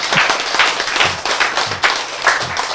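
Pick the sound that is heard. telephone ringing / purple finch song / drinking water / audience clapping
audience clapping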